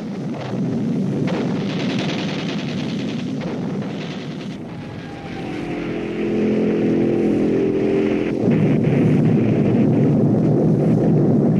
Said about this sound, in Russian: Перед нами раскрывается панорама южной части немецкой столицы. Автомашины бесконечной вереницей направляются к линии фронта.